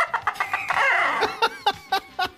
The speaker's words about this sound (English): Chicken.